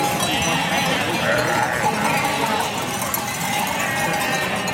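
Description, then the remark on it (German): A flock of about 900 sheep moves along in the mountains on the way to an alpine pasture, a dense continuous jangle of many clanking bells mixed with shuffling hooves and occasional bleats, steady throughout. “Aber nicht mehr lang bleibt es so ruhig, weil 900 Schafe sind auf dem Weg zur Alpmut Selvas”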